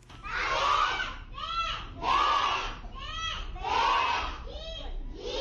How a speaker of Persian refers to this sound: شما آواز کودکان سیک و هندوی را میشنوید که در عبادتگاه مرکزیشان در جلال آباد درس میخوانند.